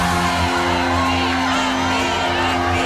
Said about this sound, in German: Erlebe, wenn ein ganzes Stadion schreit.